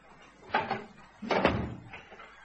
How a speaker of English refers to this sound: Let's close this bathroom door first.